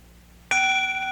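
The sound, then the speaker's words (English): A meditation bell is struck once with a sharp, bright attack, then rings on in a steady, shimmering tone of layered high overtones, loud and alone with no talking. “This bell comes from where?”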